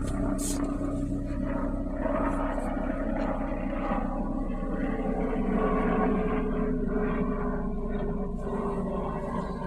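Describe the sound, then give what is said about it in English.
A helicopter roars steadily overhead, a dense low rumble with a faint throbbing texture that stays loud for the whole stretch, with no break or fade. “I never really seen a helicopter before, man. That's pretty cool. Is that the news chopper?”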